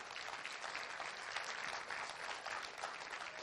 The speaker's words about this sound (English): Can everyone give her a round of applause?